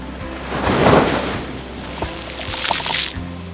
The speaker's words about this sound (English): Uh-oh, here comes a wave.